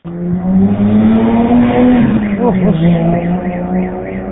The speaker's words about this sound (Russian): Я в машине сижу и, наверное, слышал. Тут у нас такие дрифтеры есть. Делать им нечего, это надо прямо точный глушитель, как говорится, приварить и вот гонять тут по свободной дороге.